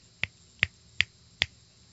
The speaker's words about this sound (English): Snapping of the fingers. Some people snap five. Some people snap three. Teachers usually snapped one.